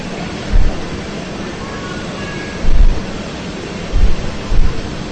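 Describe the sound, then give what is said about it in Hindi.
A continuous roar of rough, stormy sea with a wind-like hiss, broken by several deep, heavy surges of crashing waves at irregular intervals. No one speaks. “भगवान के नासिका के सांस से समुद्र में तूफान आ गया”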